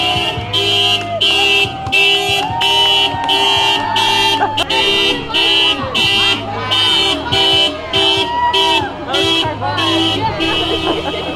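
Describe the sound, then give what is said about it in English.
Many car horns honk loudly and repeatedly on downtown Main Street in Ames, Iowa, during a 24-hour Black Lives Matter vigil, overlapping in a steady, rhythmic chorus of toots, with faint crowd voices underneath. “Honking cars was part of the 24-hour vigil that was held for Black Lives Matter here in Ames in downtown Main Street over the weekend.”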